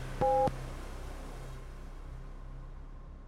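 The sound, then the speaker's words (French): A single short electronic beep, a clean steady two-note tone lasting about a quarter second, sounds over a low hum and soft hiss that continue afterward with no voices. “Restez à l'écoute, l'épisode commencera après le bip!”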